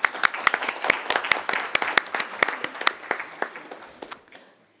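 People at a meeting of the parties applaud Switzerland for hosting a dinner, a dense patter of many hands clapping with sharp claps standing out, holding steady for about four seconds before quickly dying away.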